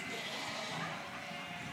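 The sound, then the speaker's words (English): A sheep gives a sustained, fairly loud bleat that holds steady for nearly two seconds, with a bright, slightly buzzy tone and no talking over it. “My favorite of the sheep.”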